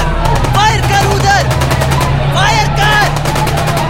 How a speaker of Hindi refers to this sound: कासिद और अब्दुल कॉलेज पर से अंधाधुंध फायरिंग करते जा रहे थे